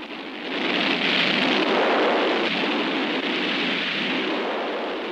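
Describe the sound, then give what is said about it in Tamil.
A heavy, steady downpour hisses continuously, a dense wash of rain noise in a stormy setting with no distinct thunderclap standing out. No one speaks. “மழை வரும் போல இருக்கேயா?”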